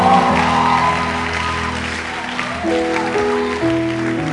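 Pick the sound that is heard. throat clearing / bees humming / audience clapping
audience clapping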